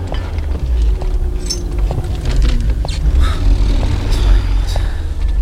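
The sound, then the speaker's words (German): A Volkswagen car engine rumbles steadily as Bob, with the three detectives inside, accelerates, pulls away past a police car and drives on toward the Rocky Mountains, a loud low drone with faint rattles and chirps over it, no voices. “Bob schluckte und gab Gas.”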